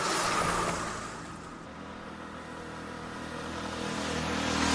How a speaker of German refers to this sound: Danach gehen wir nach unten zu der Straße, wo ein Auto und ein Motorrad zu hören sind.